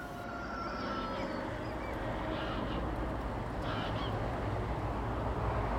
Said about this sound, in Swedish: I ljudkonstverket så finns det också olika ljud från till exempel tuppar och måsar och havet som blandas med den gråa höstdagens verkliga ljud när sträck med fåglar drar förbi och flyger söderut från Trelleborg.